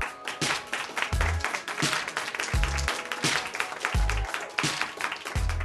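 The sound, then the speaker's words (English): An audience at a poetry reading claps to welcome a poet, a former professor of creative writing at Howard University, a dense and sustained crackle of applause, with occasional low thumps underneath and no one speaking. “Let me introduce and give a warm round of applause for”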